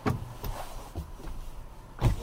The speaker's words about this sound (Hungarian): Azt hiszed, ha kinyitom az ajtót, úgy könnyebb?